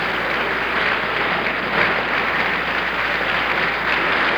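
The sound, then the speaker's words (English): Sustained applause from a large crowd inside an armory, carried on a WOOD-TV broadcast, a dense, steady wash of clapping that holds at a fairly loud level for several seconds with no voices standing out. “Stay tuned to WOOD-TV for more forthcoming bulletins in regard to their way into this armory, and they are contributing mightily to the applause.”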